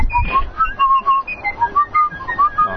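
Someone whistles a short tune, a quick run of clear, bright notes that rise and fall in pitch with brief gaps between phrases, fairly loud and with no talking.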